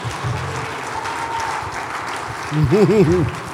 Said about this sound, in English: If you want to clap, clap well now.